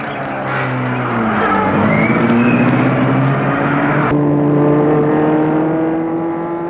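A chauffeur-driven car's engine hums steadily and rises in pitch as it pulls off with its passengers and their luggage, a continuous motor drone with a shifting whine, fairly loud, no voices.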